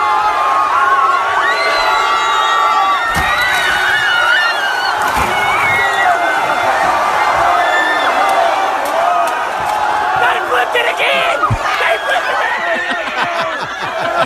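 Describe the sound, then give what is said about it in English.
A large, excited crowd of students in Kentucky cheers, whoops and shouts nonstop at high volume, with a few sharp metallic bangs and thuds breaking through as they flip over a fairly nice car. “But we've got audio of the students of Kentucky flipping over.”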